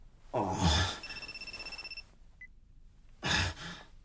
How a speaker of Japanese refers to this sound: また電話って。